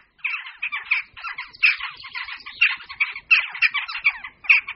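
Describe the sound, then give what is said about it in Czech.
A flock of jackdaws calling continuously, with overlapping sharp, squawky "chak" notes in quick irregular bursts, loud and busy throughout with no pauses. “se již zdaleka nejedná jen o jednotlivé páry, v některých čtvrtích kavky vytvářejí i velice početné kolonie.”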